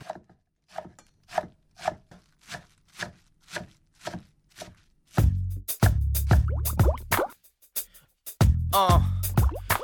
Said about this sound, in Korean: 처음에 그 뭐지 막 써는 두부 써는 소리가 나면서. 든든든 하고 보글보글 요 yeah.